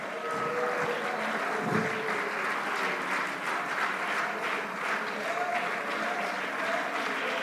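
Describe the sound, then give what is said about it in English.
An audience claps together in praise of God during worship, a dense, steady wash of applause that holds at an even loudness throughout, with faint voices and sustained tones mixed underneath. “Clap and just praise him.”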